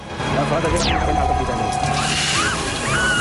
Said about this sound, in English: turns on the water.